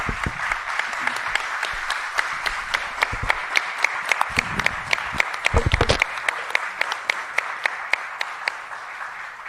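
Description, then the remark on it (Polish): An audience applauds the makers of a film steadily, many hands clapping in a dense, sustained patter with a few sharper individual claps standing out, with some faint low murmuring underneath. “Ja myślę, że gorące brawa dla twórców filmu.”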